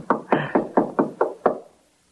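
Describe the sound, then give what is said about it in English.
Seven firm knocks on an apartment door at 2 a.m. in a quick, steady rhythm, each with a short hollow ring, fading to silence afterward. “That's his apartment door.”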